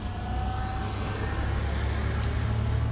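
A car engine starting up and running, a steady low rumble that holds at an even, fairly loud level over broad outdoor background noise, with no voices.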